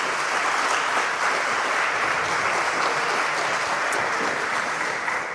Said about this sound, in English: So give a big applause